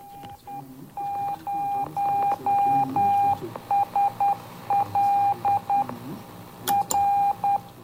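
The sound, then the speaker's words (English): A Morse code beacon from the Spacelab mission aboard the space shuttle, received on the 2-metre amateur radio band: a steady mid-pitched tone keyed on and off in long dashes and short dots, loud and clear over a hissing, rumbling radio background. “For much of the flight, only a Morse code beacon was heard on 2 metres.”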